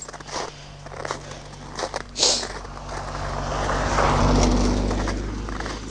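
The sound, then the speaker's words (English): A car passes by on a snowy street on a freezing evening, its broad road rumble swelling steadily through the second half and peaking near the end, after a few scattered taps and clicks outdoors. “Oh, car.”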